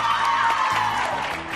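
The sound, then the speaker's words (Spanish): A crowd applauds and cheers for the school Colegio San Pedro Apóstol at the COPE Guadalajara radio station's children's short-story contest final, a dense, steady wash of clapping with a few high whoops rising through it, loud throughout and tapering only slightly by the end. “Otro aplausazo.”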